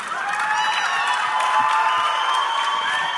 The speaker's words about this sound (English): So I imagine you're not joining in on applause right there. Again, that's NEA President Lily Garcia, and this took place back in October during a Campaign for America's Future Awards where she presented.